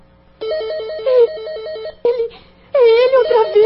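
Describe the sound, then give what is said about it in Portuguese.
A telephone rings with a loud, rapidly warbling electronic trill lasting over a second, then cuts off; a brief burst follows before a wavering voice takes over. “Atenda. Quem sabe ele não dá uma pista de onde está ligando.”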